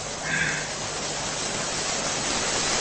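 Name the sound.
river water flowing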